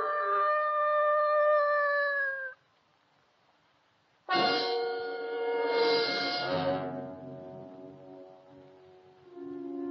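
A dog howls in long, wavering, tonal cries, one sustained howl, a pause of silence, then a louder rising howl that slowly fades, clear with no talking.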